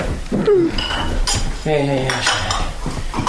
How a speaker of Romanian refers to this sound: Parele, tacâmurile. Cred că e gata masa.